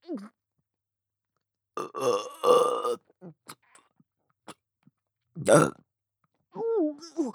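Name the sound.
loud vulgar burp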